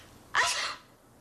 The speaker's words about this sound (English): And I just sneezed. Do you know what that means? You're allergic to me, too? No, it's the shampoo.